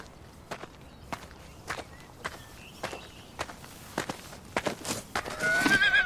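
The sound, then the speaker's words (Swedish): Slow, evenly spaced hoofbeats of a horse on a house veranda clop along, gradually quickening, and then the horse lets out a loud, high whinny at the end. “En häst på verandan.”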